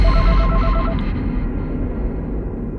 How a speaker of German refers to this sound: Telefon! Soll ich rangehen?